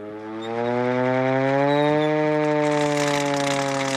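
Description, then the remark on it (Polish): A hand-cranked fire siren, still used by the fire service, winds up and holds a loud, steady wail, its rich harmonic tone rising slightly in pitch and sustaining, with no voices. “Syrena ręczna, która do dzisiaj”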